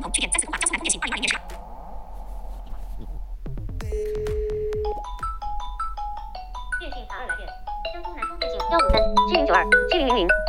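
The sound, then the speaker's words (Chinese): A Xiaomi mobile phone rings with an incoming-call melody as it is called from another phone: clear electronic notes stepping up and down and growing fuller, playing steadily and fairly loud after a brief voice at the start. “比如说我用我另外的一个手机来给他打个电话。”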